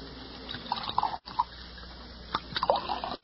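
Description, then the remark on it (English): Liquor glugs from a bottle into a glass at a bar in a few short, uneven bursts with small splashes and clinks, over a steady background hiss, with no one speaking. “Set out a couple of glasses in that bottle you've got your hand on. We pour our own.”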